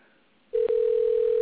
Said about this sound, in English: And you'll hear the phone ringing there.